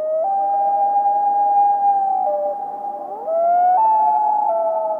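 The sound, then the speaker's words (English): A common loon's wail: a long, steady, mournful tone that breaks upward in pitch partway through and holds again, loud and unaccompanied, with no voices. “The prolonged, unmodulated tone sounds somewhat like a wolf's howl, doesn't it? We identify this as the whale call, reflecting its mournful qualities.”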